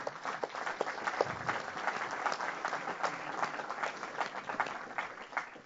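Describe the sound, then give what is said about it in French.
A crowd applauds the ten award winners steadily for several seconds, a dense patter of many hands clapping at an even, sustained loudness with no voices standing out. “Les 10 ont été prévenus, et donc je pense que vous pouvez applaudir les 10 lauréats qui sont...”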